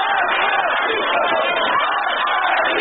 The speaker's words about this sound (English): Iranians at a funeral of a reform-minded cleric in Isfahan earlier this month chanting, "Death to the dictator,"